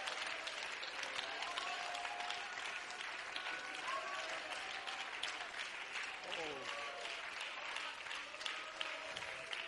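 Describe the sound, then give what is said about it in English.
An audience claps hands steadily for the whole stretch to give glory to God, a dense, loud wash of applause with faint voices and shouts mixed underneath. “If you've been in the battle for the last year, you need to clap your hands and give glory to God, because there is a shift taking place right now.”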